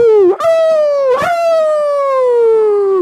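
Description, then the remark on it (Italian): A person imitates a wolf with a loud, drawn-out howl that slowly falls in pitch, broken by two quick catches early on, with no talking. “… li segue ululando.”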